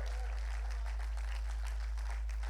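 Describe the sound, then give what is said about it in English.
An audience in Iowa claps hands together, a steady, dense patter of many overlapping claps lasting a few seconds at a fairly soft level, with no clear voices standing out. “Come on, clap your hands, Iowa.”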